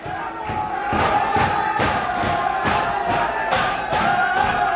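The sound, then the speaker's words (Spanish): The Getafe football team celebrating in their locker room, throwing water, bouncing and jumping: a group of voices loudly chanting and shouting together, with rhythmic thuds of jumping about twice a second, energetic and continuous throughout. “Tirando agua y botando y saltando.”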